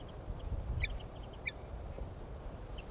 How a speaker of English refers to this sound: Male chitter on approach.